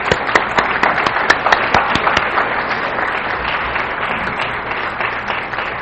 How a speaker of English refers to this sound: would you please come up to the front and applaud for Michael.